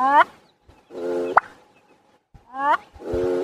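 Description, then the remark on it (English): A male bird's mating call, given twice: a wheezy, buzzy whistle rising in pitch, ending each time in a sharp, loud pop like a cork. Nobody speaks. “So the males will try to win over females with a very interesting mating call.”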